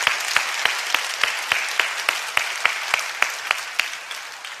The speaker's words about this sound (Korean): 그래서 저는 박수친 김에 하나님께 영광의 박수 올려드리겠습니다.